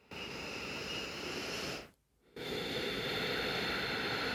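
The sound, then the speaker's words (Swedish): A long, airy exhale, a brief pause, then with the mouth closed a steady, hissing breath drawn in through the nose, as a breathing exercise at the start of yoga. There is no talking. “Och bara så här, okej, jag börjar med en utandning. Stänger munnen och sen...”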